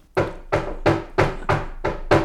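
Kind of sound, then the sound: impact, knocking on a door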